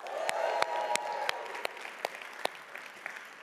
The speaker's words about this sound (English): Welcome to everybody who is joining us online. Can we just give a big cheer for everyone online? One, two, three.